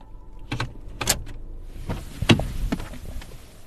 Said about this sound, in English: I'm going to get my gear out from the trunk of my car. Getting my tripod and my backpack full of gear.